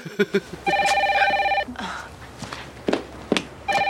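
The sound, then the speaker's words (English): A telephone rings in an apartment with a steady, bright electronic tone lasting over a second, then starts ringing again at the end. A few soft taps come before it, and faint scuffing fills the gap. “So when the phone rings at her apartment, Kelly learns she is dating a squeef in clip two.”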